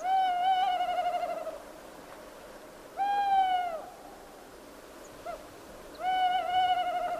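A tawny owl, about to begin its autumn breeding season, calls at night, giving three drawn-out, slightly wavering hoots spaced about three seconds apart, clear against an otherwise quiet, faintly hissing background.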